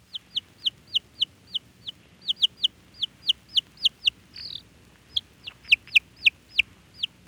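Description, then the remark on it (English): A lone baby chick peeps over and over, about twenty shrill, high descending chirps in a quick, steady rhythm, fairly loud, with one brief scratchy break midway. “School of sea lions, they're the same baby chicks. For just a moment, let's listen to this one little fella alone.”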